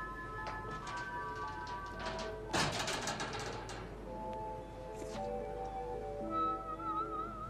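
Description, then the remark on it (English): A loud thud of a door banging close to a boom microphone lands once partway through, sharp and boomy, over a steady bed of thin electronic tones and faint rattling. “They put the boom too close to that door, didn't they?”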